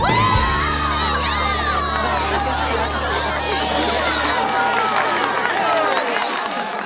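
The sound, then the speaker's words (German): A loud audience of children cheers and shouts excitedly, many high voices overlapping in a continuous roar, with a low sustained tone underneath that fades out near the end. “Unbeschreiblich, diese Stimmung. Das Publikum ist hellauf begeistert.”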